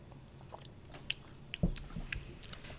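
Sips of lager beer with small wet lip smacks and clicks, then one heavier swallowing gulp in the middle, followed by soft mouth noises. No one speaks.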